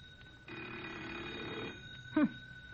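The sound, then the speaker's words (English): A telephone bell rings in one sustained burst of a little over a second, then stops, leaving a faint steady hum and a brief chirp. No one speaks. “Maybe if we'll just be real quiet, they'll think nobody's here and quit ringing in a minute.”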